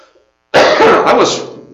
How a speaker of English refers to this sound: I coughed one time until I started talking, right? Remember that? Now that I'm talking, I'm starting to cough.